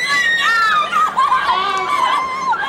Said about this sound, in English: It was Sarah Hughes who provided the evening's primal scream, and who could blame her?